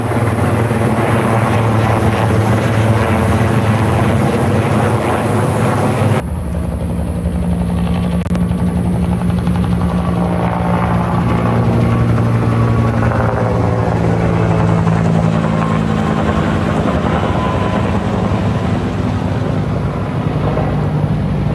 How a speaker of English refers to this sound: See them right through there. flying overhead. They're getting water right over there. It's pretty creepy, man. The helicopter's flying right over our head the whole time.